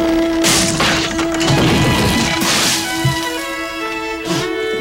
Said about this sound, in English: And it's very like Home Alone right there. He sits back on his chair, pulls a rope, and a barrel splashes him with beer.